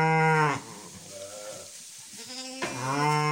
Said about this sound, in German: Das ist nicht schwer, hier hörst du es nochmal. Klar, das sind Schafe und Lämmchen in unserem Stall.